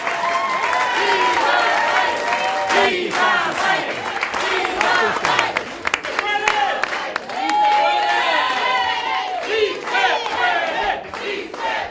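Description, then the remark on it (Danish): A large crowd at a Joe Biden meeting with Latino Americans chants 'sí se puede' ('yes, we can') and 'viva Biden' in unison, loud rhythmic shouting punctuated by cheers and scattered clapping, sustained at high volume throughout. “Ja, det de råber her, det er si se puede, det betyder yes, we can, og så er det viva Biden, altså vi holder med længe leve Biden her.”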